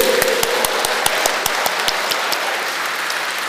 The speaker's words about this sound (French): Amen, applaudissez.